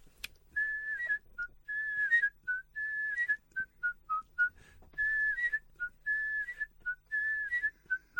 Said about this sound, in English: Of course, that's it. That's the whistle.